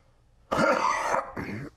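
Two close, fairly loud coughs in quick succession, the first longer and harsher, the second shorter, with no talking around them.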